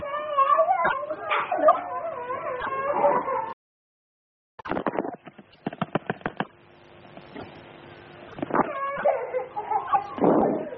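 A child cries in high, wavering wails that stop abruptly, followed by a stretch of clicks and rustling, then the sobbing, whimpering cries return.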